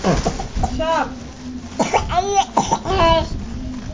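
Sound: coughing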